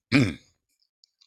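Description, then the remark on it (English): A single short throat clearing, a raspy voiced burst lasting about a third of a second, followed by near silence with a couple of faint clicks. “Now I'm going to I'm always going to be clearing my throat, I'm afraid.”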